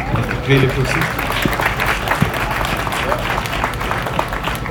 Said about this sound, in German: Ja, Applaus, gut.